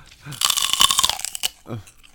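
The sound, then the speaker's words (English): A loud second of rapid crunching as someone eats celery, framed by brief voiced mouth sounds just before and after. “That terrible, obnoxious, crunching sound.”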